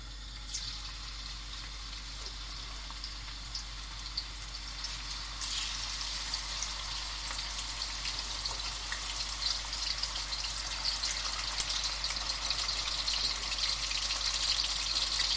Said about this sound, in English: Now the key to see when a saucepan is heated enough is you take a piece of your meat and you touch it onto the oil. It sizzles like that. And it's almost there.